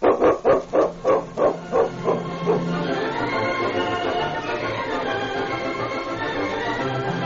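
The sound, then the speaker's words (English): A dog lets out a rapid run of about eight loud barks over a couple of seconds, then stops, leaving a steady background wash. “your dog, he saved somebody's life. Well, that's all in the day's work for King, isn't it, fella?”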